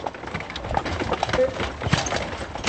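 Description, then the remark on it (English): Horse hooves clip-clop steadily as a horse-drawn buggy rolls along on the island of Heybeliada, Istanbul, carrying visitors to the Halki Seminary past tall wooden houses, the rhythmic clopping over a busy outdoor background with faint voices mixed in. “Because cars are banned on the tiny island of Heybeliada, the easiest way to get to the Halki Seminary is by horse and buggy.”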